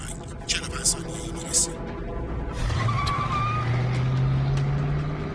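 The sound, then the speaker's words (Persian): Steady heavy traffic rumble with a few brief whooshes, then a car engine revs up after waiting at a red light, its pitch climbing steadily as the car pulls away and accelerates. “حرکت کردم. لعنتی. ترافیک خیلی زیاده.”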